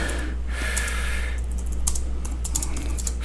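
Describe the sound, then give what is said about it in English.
Rapid clicking of keys on a computer keyboard, irregular bursts of typing over a steady low hum, with no voices. “Yeah, I'm a terrible typer. I can't type worth a shit. I try too fast and I end up hitting double keys, you know, that finger.”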